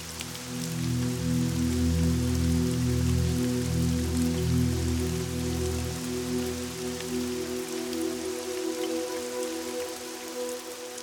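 Steady, gentle rain patters continuously with a soft hiss and scattered droplet taps, while a low, sustained musical drone hums underneath throughout.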